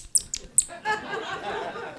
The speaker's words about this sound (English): This is the sound of an angry rat.